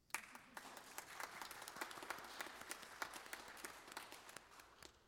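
An audience in a Presbyterian church applauds, many hands clapping in a dense, steady patter of crisp overlapping claps that continues evenly for about five seconds with no voices.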